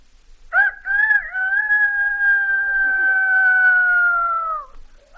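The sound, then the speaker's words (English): A single long rooster crow rings out clearly, holding one drawn-out, strained note for about four seconds before cutting off, with quiet background and no talking. “A rooster.”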